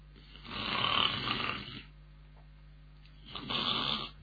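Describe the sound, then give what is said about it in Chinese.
A storyteller's voice imitates loud snoring of a man who has leaned back in a chair and fallen asleep after eating his fill: two long, raspy breaths, the first longer, separated by a quiet pause, clear with no other talk. “哎，真是吃得饱睡得着啊。”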